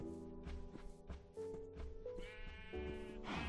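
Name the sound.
sheep bleating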